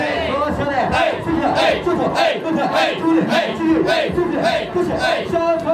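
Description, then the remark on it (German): A group of male hosts at a Japanese host club perform a champagne call (Champankuru). They chant loudly in unison in a rhythmic call-and-response with repeated shouted phrases and cheers, dancing and clapping their hands. The chanting is energetic and continuous throughout. “So als wäre plötzlich ein Schalter umgelegt, rauscht eine ganze Gruppe von Hosts aus allen Ecken herbei und tänzelt, klatscht in die Hände.”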